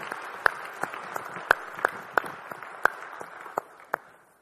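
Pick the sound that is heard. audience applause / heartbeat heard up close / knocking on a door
audience applause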